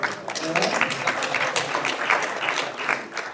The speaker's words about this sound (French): On peut l'applaudir.